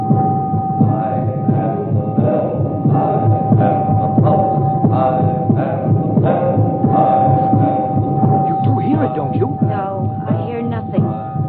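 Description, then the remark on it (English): A slow, low heartbeat throbs steadily beneath a constant droning hum, its muffled pulses repeating throughout with a dense, murky texture. “Only if you'll sit still sometimes and listen, its poor beat will become stronger, and you will hear it filling yourself, filling the world, ringing out at last, proud and clear and true.”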